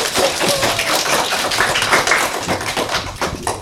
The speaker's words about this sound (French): On peut les applaudir.